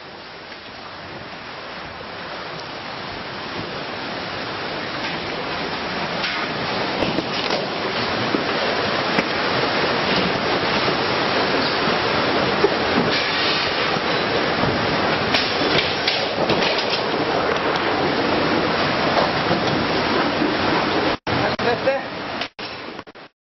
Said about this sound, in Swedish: Svensken som filmar in i restaurangen ställer sig på bord för att komma högre upp samtidigt som lokalen svämmar över med vatten. Videon avslutas strax därefter.